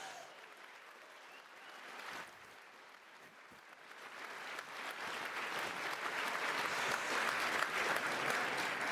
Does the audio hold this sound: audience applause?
yes